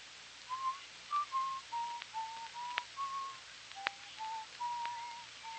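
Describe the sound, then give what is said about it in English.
A person whistles a slow, wandering tune of short held notes, moderately loud, with a few faint clicks and a soft background hiss. “That noise. I'm whistling.”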